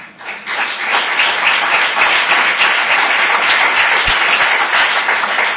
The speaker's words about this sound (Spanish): Un fuerte aplauso.